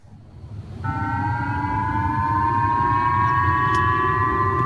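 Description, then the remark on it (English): A civil defense missile warning siren in the northern region of Hokkaido, Japan, sounding as North Korea launched a ballistic missile over Japan, with instructions to take cover; it starts up after a moment and holds a steady, droning wail with layered tones, loud and sustained over a low rumbling background, with no voices. “People in the northern region of Hokkaido woke up to these sirens and to instructions to take cover.”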